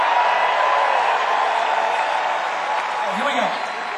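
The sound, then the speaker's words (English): A concert crowd applauds and screams in a steady, dense roar of clapping and high cheering, loud and sustained throughout, with a brief rising and falling shout near the end. “You gotta keep screaming though.”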